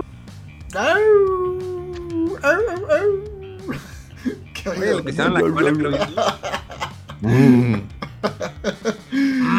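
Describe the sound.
A person gives a long, drawn-out wolf-like howl, rising and then dipping over a few seconds, followed by lively chatter and laughter from several voices.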